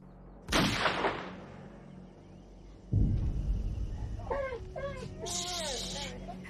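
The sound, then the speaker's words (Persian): Two sharp gunshots ring out a couple of seconds apart, loud booming cracks with a lingering tail, followed by voices and chirping sounds afterward. “صدای چی بود؟ صدای گلوله.”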